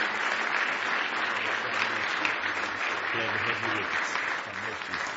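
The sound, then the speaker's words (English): An audience applauds after a prayer, clapping to God: a dense wash of many hands clapping at once that holds at an even level for several seconds without pause, with a faint murmur of voices underneath. “Yeah, just clap to him.”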